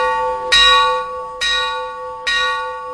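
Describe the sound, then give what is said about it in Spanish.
A church bell tolls three times at a slow, steady pace, calling people to mass, each loud metallic strike ringing out and humming on as it fades beneath the next. No voices. “Este toque tan simple de la campana probablemente sea el más conocido. Están tocando a misa.”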